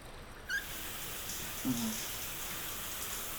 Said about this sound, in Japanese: はい、こちらに座ってください。そうしたらまずはシャワーを出して